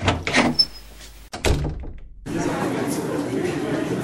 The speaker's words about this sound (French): Ah, voilà la deuxième porte. C'est écrit topic de présentation.